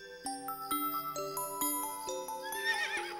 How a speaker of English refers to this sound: Who is that? That's a horse. Horse. Horse starts with H.